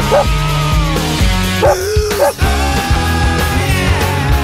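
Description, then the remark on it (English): A short, loud radio jingle introducing a "Dog news" segment on Devonport's 107.7 CFM, with a steady beat, punctuated by a few sharp dog barks and yips that ring out over the music. “Dog news.”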